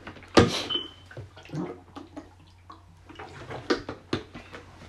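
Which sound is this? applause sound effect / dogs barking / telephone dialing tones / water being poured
water being poured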